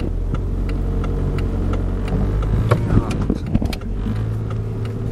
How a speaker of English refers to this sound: All these busy cars behind me.